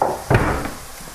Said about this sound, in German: Wir haben gerade eine Schale aus der Schublade genommen, damit wir das Fleisch gleich aus der Pfanne nehmen können, um das Gemüse dann anzubraten.